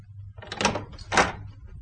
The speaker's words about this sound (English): Open the door